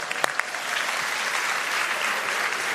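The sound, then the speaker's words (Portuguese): A crowd claps steadily, a dense, even wash of many hands with a few sharper claps standing out at the start, sustained at a constant level throughout, applauding a woman who was first to stand with her printed Bible open during a Bible reading. “Impressa, uma salva de palmas, ó.”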